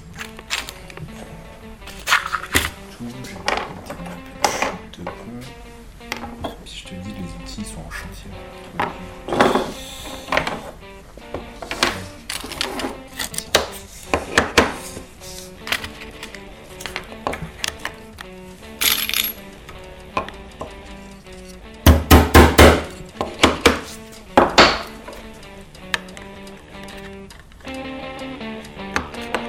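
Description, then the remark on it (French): Lead came being fitted around stained glass pieces in a stained-glass workshop: irregular sharp metallic clinks and taps, with brief bursts of rapid clicking and quiet handling between them, no voices. “Et la mise en plomb.”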